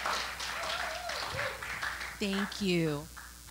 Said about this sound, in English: So yeah, give her one more round of applause though. We need to hype her up.